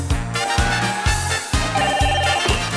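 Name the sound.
telephone bell ringing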